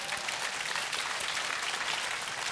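A crowd applauds steadily, many hands clapping together in a dense, even wash of sound that stays loud throughout without any voices rising above it.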